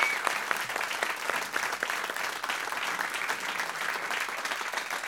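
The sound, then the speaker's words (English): Steady, dense applause from a studio audience, a concert club, live in Studio 1A after a song performance: many hands clapping at once in a continuous crackling wash that holds at an even, loud level for about five seconds with no voices standing out. “We're here live in Studio 1A, and as you can hear, we've got our great concert club here with us too.”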